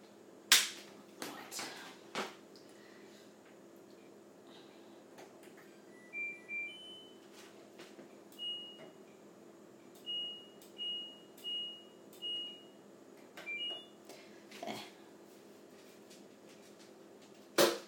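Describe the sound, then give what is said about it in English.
An LG washer dryer is switched on: a series of short electronic beeps in a rhythmic run, a few sharp clicks and knocks from buttons and the door latching and locking. “Right, now I'm about to put on my washing machine. It is an LG washer dryer.”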